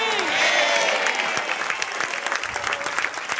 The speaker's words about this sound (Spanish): Vamos, si se te está revelando el tema, dale un aplauso bien fuerte.